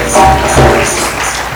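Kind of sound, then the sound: crowd, audience clapping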